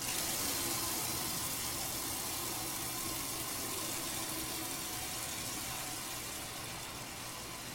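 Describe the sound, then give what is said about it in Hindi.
Water splashes and sloshes steadily in a basin as it is used to wash someone's feet, a continuous wash of liquid noise that fades slightly toward the end, with no voices. “जाओ चलती जाओ, तश भर के पानी लाओ, इनके पांव धोते हैं।”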